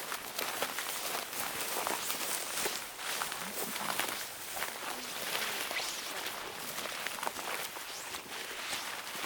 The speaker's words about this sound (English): Right, should we do some stomping? Yes. Yes, right. Let's stomp.